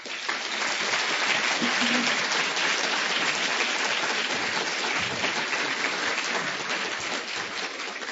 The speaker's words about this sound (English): I'm always nervous when people clap before the talk. I'm not sure quite what the expectations are.